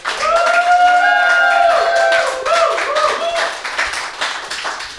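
An audience applauds with dense, steady clapping for about five seconds, while sustained cheering and whooping voices ride over the top early on before the applause eases slightly toward the end.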